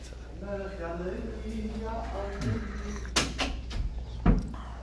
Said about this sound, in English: I don't know if somebody's coming, let's grab the door.